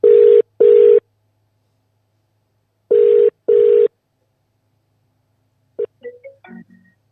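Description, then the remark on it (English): A telephone ringback tone sounds in two double-burst rings, steady and mid-pitched, separated by silence, then a click and a brief faint voice fragment as the call is answered. “So we'll just give him a quick buzz.”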